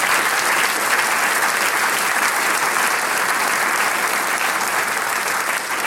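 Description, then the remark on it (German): Loud, sustained applause from many hands for a prize won at a singing competition in Innsbruck, a dense steady clatter of clapping that holds at an even level for about six seconds with no voices standing out. “Ja, das ist auch einen kräftigen Applaus wert.”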